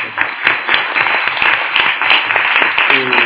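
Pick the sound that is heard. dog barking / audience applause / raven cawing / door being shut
audience applause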